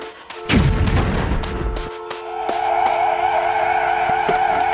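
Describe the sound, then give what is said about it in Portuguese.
A car roars off with tires screeching, a sharp skid sweeping down in pitch, then a sustained high squeal and engine noise as it speeds away, loud, with no talking. “Corra pro carro, corra!”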